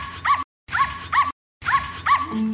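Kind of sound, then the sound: animal, dog barking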